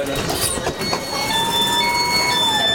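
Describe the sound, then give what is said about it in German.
An S-Bahn train door is reopened by pressing its button and closes automatically amid steady rail rumble, with thin sustained high tones and a faint rising whine running through the noise. No one speaks. “Die Türen gehen immer automatisch zu, aber wenn jetzt jemand wieder den Knopf drückt, weil die Bahn noch nicht losfährt.”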